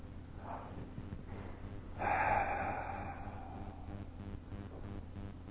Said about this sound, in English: If you just close your eyes, but not too tightly, and like we did this morning, just focus on your breathing for a couple of minutes. Maybe take several real deep breaths.